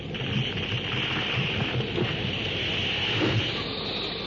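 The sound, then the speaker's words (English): A heavy downpour in a jungle storm roars steadily and loudly throughout, a dense continuous hiss with low rumbling churning underneath, like a thunderstorm in full force. No voices are heard. “The deafening crash and roll of thunder combines with the banshee howl of the wind.”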